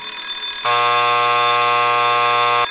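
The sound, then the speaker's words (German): A siren in a courtyard blares as one loud, steady, buzzing tone at a fixed pitch, holding for about two seconds before cutting off abruptly, over a constant background hiss with no voices. “Und dann wird halt die Sirene angemacht und...”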